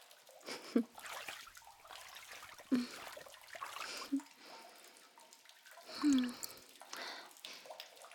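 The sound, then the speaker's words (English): Water sloshes and splashes in a bath as someone climbs in to sit down, with several distinct surges of movement and soft drips between them, fairly quiet. “Now come. Enter the bath and sit beside me.”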